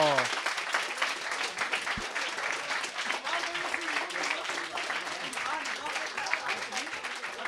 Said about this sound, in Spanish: ¡Un fuerte aplauso!